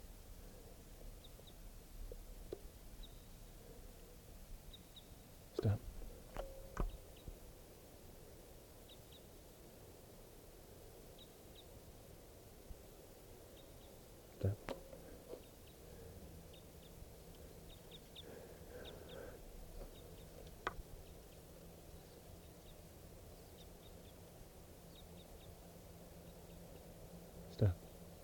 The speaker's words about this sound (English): Third recording, this is a type 5 bird way across the clearing.